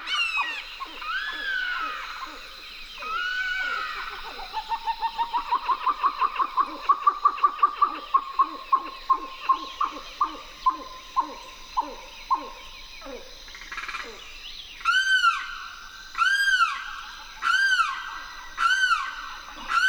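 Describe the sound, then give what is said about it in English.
A fast, rising chatter of grebes builds into rapid repeated notes, then loud harsh calls of a limpkin and a red-shouldered hawk ring out in spaced, arching bursts, clear with no talking, recorded in a riverine marsh at the Wakissa River's edge in Florida. “Lang Elliott and Ted Mack went to the Wakissa River's edge and recorded chattering grebes, a limpkin, and the harsh call of a red-shouldered hawk.”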